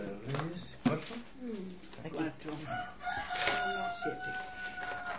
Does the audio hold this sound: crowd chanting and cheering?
no